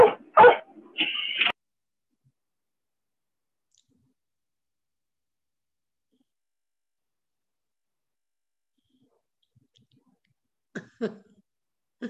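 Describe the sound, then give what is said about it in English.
Dogs bark at each other in a short, sharp flurry, fall silent for several seconds, then bark a few more times near the end, with no talking over them, as a dog being walked near home sees another dog. “He's gonna see another dog as well.”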